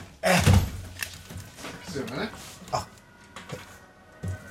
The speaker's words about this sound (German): Warte, ich mache hier mal das Fenster auf. Warte mal, ich mache auch mal Fenster auf. Mal gucken, was man hier hört.